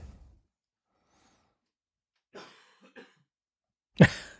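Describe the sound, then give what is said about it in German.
A man coughs a few times: a couple of softer, muffled coughs in the middle, then one loud, sharp cough at the end, with near silence in between and no talking. “Der eine taucht nicht mehr auf, der andere hustet.”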